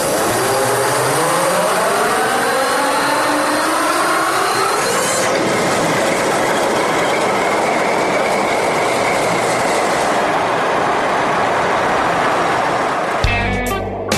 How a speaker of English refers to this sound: Before the engines are started, the controller warns everyone under or near the crawler. Okay, that's our clue to start. Go ahead.